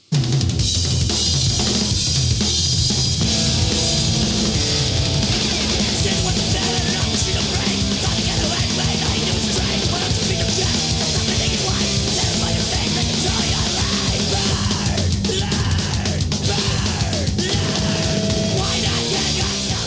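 A brief, frantic punk rock song blasts at full volume for about twenty seconds, a dense wall of distorted guitars and pounding drums with shouted, yelling vocals throughout.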